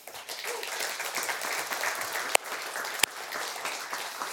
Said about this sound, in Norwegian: Skal vi gi lovsangsteamet en god applaus?